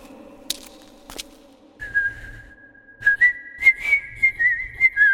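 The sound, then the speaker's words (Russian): A person whistles a slow tune in clear, sustained notes that step up and down in pitch, fairly loud, with a couple of sharp knocks before it and soft low thumps beneath; the whistling carries through a chapel. “свистел, и его свист разносился по всей часовне.”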